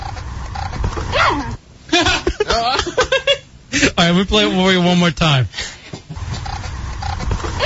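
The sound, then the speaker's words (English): Several dogs bark and yelp excitedly while bouncing on trampolines, in a lively burst of high, wavering cries lasting a few seconds, with a man talking briefly before and after. “The dogs on trampolines?”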